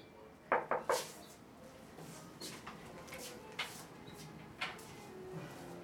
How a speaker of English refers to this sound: I locked the door. I'm not gonna open the door.